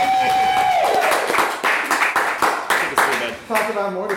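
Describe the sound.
An audience breaks into steady, dense applause, many hands clapping at once for about four seconds, with a brief tone at the start and a voice rising near the end.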